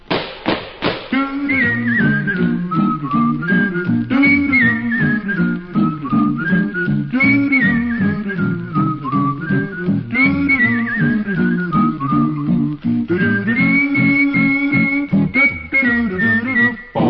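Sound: human whistling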